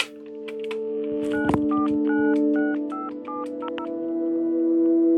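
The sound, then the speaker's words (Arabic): A rapid series of short electronic telephone keypad beeps as a number is dialed to make a call, about a dozen dual-tone presses in an uneven rhythm, played over a steady low hum with no one speaking. “واللي شوفي أعطيني التليفون خلا اتصل فيه.”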